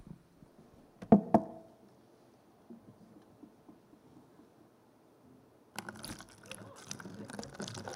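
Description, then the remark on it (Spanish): Two sharp taps early on, then a quiet murmur, and finally a steady splashing rush of water being poured onto cotton candy, continuing for the last couple of seconds. “Pero ¿qué sucede cuando lo pongo a probar y le echo agua?”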